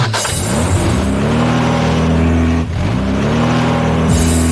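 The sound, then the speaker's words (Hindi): A vehicle engine cranks and catches as the vehicle is taken out, then revs up loudly with rising harmonic tones, dips briefly, and climbs again in a second rev. It is continuous, with no talking. “अरे गाड़ी निकाल भाई।”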